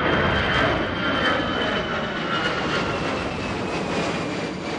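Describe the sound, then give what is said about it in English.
A jet airplane roars loudly overhead past the end of the runway at National Airport, at Gravelly Point on the Potomac River in northern Virginia, a dense, steady engine rumble with a thin whine on top, filling the whole stretch without any voices. “You can't really ignore the planes that fly past here every few minutes, but people tend to take them pretty much for granted.”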